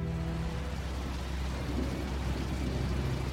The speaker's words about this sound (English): The rain against the windows has increased. If they ever land and take off again, it could be in the middle of a storm.